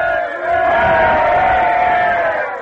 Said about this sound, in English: Three cheers for General Washington! Hooray! Hooray! Hooray!